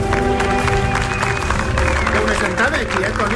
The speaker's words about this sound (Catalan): Un aplaudiment pel Clapés.